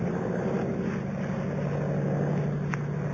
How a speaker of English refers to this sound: Suddenly, in the blue evening sky, I saw something. Low down in the south, a monoplane was climbing into the heavens.